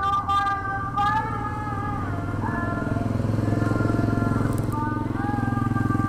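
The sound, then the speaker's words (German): A motorcycle carrying a reporter and his interpreter to the small fishing village of Bonebaru on Banggai Island drones steadily, its pitch rising and falling as it shifts and accelerates, with a continuous throaty rumble throughout. “Ein Motorrad bringt den Reporter und seinen Dolmetscher auf der letzten Etappe der 12.000 Kilometer Reise ins kleine Fischerdorf Bonebaru auf der Insel Banggai.”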